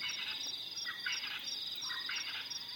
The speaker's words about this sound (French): Dans ce paysage de sons, on entend un francolin du natal et les insectes.